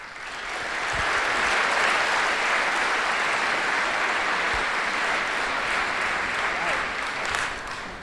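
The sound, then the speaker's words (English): Sustained applause from a conference audience for a speaker's talk, a dense wash of many hands clapping at steady loudness for about eight seconds, rising quickly at the start and tapering slightly near the end. “So give him a warm applause for his talk.”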